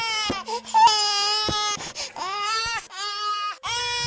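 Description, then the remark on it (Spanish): A baby wails up close in long, strained cries with harmonic, high-pitched tones, broken by brief gasping pauses and sharp catches of breath, loud and continuous throughout. “Pero cuando empezó a caminar, oyó otra vez muy cerca el llanto de un guagua.”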